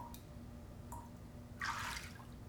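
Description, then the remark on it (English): Water sloshes briefly in a tub of ice water, a soft splashy swirl lasting under half a second, preceded by a couple of faint drip-like ticks over a low steady hum. “All it takes is a tub of ice water, a syringe of propanol, and True to watch over me.”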